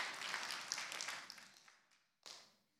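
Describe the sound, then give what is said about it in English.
A group of people at a church service clapping together, a dense patter of applause that gradually dies away, then a short second burst of clapping before it fades out. “Come on, give them a round of applause and the support.”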